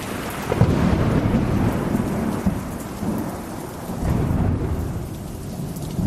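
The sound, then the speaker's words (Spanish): Steady, heavy rain in the province of Seville, Spain, falling since the previous midnight, pours down with deep rumbles of thunder rolling underneath, a dense, continuous wash of sound with swelling low booms and no voices. “El sonido de la lluvia nos acompaña desde la pasada medianoche.”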